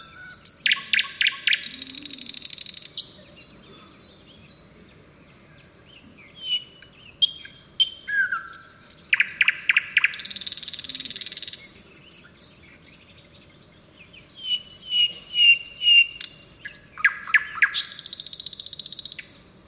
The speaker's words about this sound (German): Schauen wir uns das nochmal an, wenn wir dieser Nachtigall hier zuschauen, können wir ja ahnen, dass das sehr kompliziert ist.